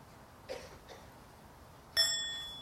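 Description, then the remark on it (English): A couple of faint soft taps, then a single gentle, muted half strike of a bell whose thin, high ringing tone lingers and slowly fades, with no voices. “The half sound is not to cause a surprise for the bell and for the people around us.”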